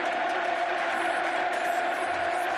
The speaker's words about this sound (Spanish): Gritos del Camp Nou animando y coreando el nombre de un chaval de 19 años que se llama Pedri.